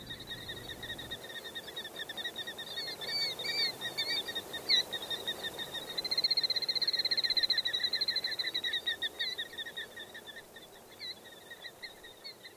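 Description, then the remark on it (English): Outdoors, a steady high-pitched chorus of birdsong, with trills and chirps, rises and thickens partway through over a faint low rumble of gas well engines. No one speaks. “The birds keep up an exciting caroling with background accompaniment of gas well engines roaring and boom, boom of artillery practice at Fort Chaffee across the river.”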